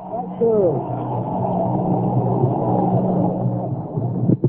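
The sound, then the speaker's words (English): A packed ballpark crowd at a baseball game involving New York roars loudly and steadily for several seconds as Bob Gibson pitches to Boyer, a dense wash of many voices that swells briefly, then breaks off with a couple of sharp bursts at the end. “Every strike, you can hear the roar.”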